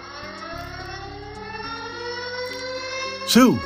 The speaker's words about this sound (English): … screamed over the tornado siren.